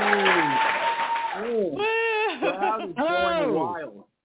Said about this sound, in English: Crowd is going wild. The crowd they do go very wild.